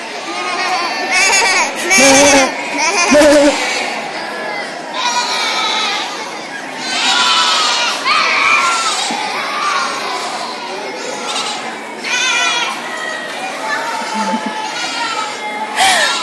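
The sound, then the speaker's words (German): A crowd of children and adults bleat like sheep all at once to say hello to their neighbours, a dense, overlapping chorus of playful 'baa' imitations for several seconds, loud and continuous. “Das heißt, du darfst jetzt mal deinem Nachbarn Hallo sagen, indem du mäh oder mäh machst.”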